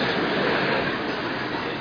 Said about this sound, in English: Finally, the train started moving. Movement really makes you feel nice.